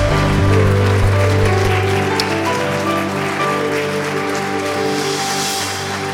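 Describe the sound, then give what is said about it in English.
A church audience, standing during a worship service, claps steadily in praise to Jesus, a dense, continuous wash of hand claps that holds at a fairly loud level, with sustained low musical tones humming underneath. “Come on, give him a clap offering of praise.”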